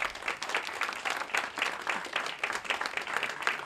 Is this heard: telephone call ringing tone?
no